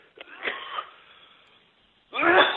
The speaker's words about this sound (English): Excuse me, this idiot coughed.